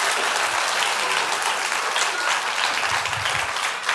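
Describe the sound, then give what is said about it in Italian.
A crowd claps steadily throughout, a dense, even wash of many hands at a constant loud level, with no voices standing out. “Facciamo un applauso.”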